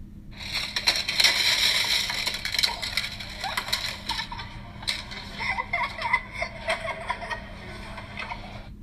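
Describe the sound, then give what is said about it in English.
A loud clattering crash of colorful, transparent plastic shapes tumbling and rattling onto a light box in a middle school media center makerspace, settling into scattered clicks and rustles, with faint kids' voices and giggles in the background. “The sound of colorful, transparent plastic shapes crashing down onto a light box here at Piedmont Middle School's Media Center.”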